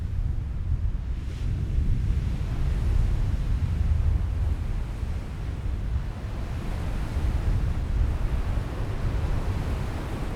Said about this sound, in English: The foamy white waves of a murky brown sea roll onto a litter-strewn shingle beach and crash against a sea break stretching out into the water.